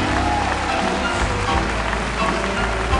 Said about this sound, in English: Give them a hand clap. Come on, as they go to be loved. Come on, give them a good hand clap.